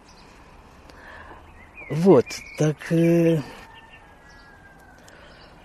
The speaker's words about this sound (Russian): Вот петух запел, например. Мешает? Мне нет. Только помогает.